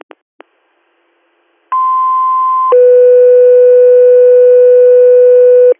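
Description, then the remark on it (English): A pair of short clicks, then a two-tone dispatch radio pager alert toning out an ambulance and EMT call: a steady higher tone for about a second, followed by a lower, loud sustained tone lasting roughly three seconds, with no voices. “Could you tone out one more time, please?”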